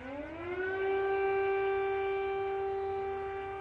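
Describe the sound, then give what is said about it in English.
A loud air raid siren wails steadily over Kiev, Ukraine's capital of 3 million people, the day after Russia launched an invasion, its tone rising at the start and then holding a long sustained pitch with rich harmonics, with no voices present. “Air raid sirens wailed over the capital of 3 million people, where some residents sheltered in an underground metro station”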